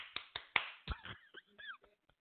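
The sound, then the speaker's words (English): Four sharp hand claps in a quick, steady rhythm, crisp, followed by a few short, faint vocal sounds with no more clapping. “Can I just do the clap?”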